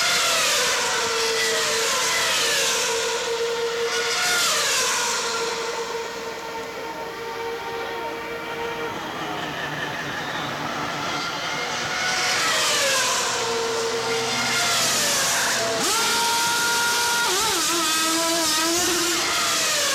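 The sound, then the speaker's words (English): Loud, continuous roar of racing engines, their pitch climbing and dropping as cars rev and sweep past one after another, with no talking over it. “the race car sounds in the background, that's awesome.”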